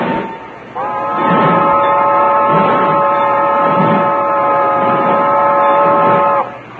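A steam train rolls along, a long steady multi-toned whistle sounding over slow, rhythmic chuffs that pulse roughly once a second beneath it before the whistle cuts off.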